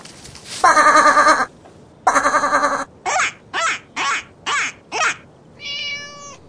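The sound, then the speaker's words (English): A sheep bleats repeatedly: two long, wavering bleats, then five short ones in quick succession, ending with a steadier, more tonal cry. No one speaks. “Look! There's a sheep! Let's feed the sheep!”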